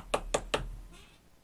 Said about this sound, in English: In communist countries, you keep your mouth shut, or you get that knock on the door.